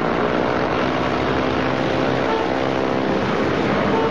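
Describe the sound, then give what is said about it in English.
A small propeller plane's engine roars as the throttle is pushed in for a solo flight, a loud, continuous buzzing drone that holds steady and strong throughout. No voices. “Grant pushes in the throttle.”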